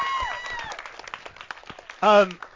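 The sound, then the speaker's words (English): Scattered audience applause, a crackle of uneven hand claps that stays fairly soft, broken near the end by a short, loud voiced shout or cheer. “But it doesn't really work if they applaud when you tell them to applaud.”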